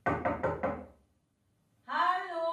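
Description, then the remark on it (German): Four quick, solid knocks on an apartment door in an even rhythm, fairly loud, followed by a short silence before a voice begins speaking. “Es klopft an seiner Wohnungstür.”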